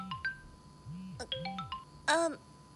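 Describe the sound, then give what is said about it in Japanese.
A phone ringtone plays for an incoming call, a bright melodic run of chiming electronic notes with a few quick pitch sweeps, ending in a louder, buzzy burst of tones. “え、電話。”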